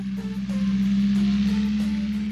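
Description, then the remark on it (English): A steady, droning engine hum from a plane flying overhead, holding one low pitch with a wash of rushing noise throughout, fairly loud and unbroken. “A plane flying in the sky.”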